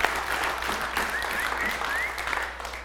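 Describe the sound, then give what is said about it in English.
Audience applause for a family during a child dedication fills the whole stretch: a steady, dense patter of many hands clapping at moderate loudness, with a few faint whistles rising through it and no one speaking. “All right, let's give them applause.”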